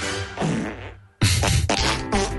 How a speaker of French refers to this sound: Et sinon, pour la question nuit, ma chanson c'est Joyeux anniversaire, version prout.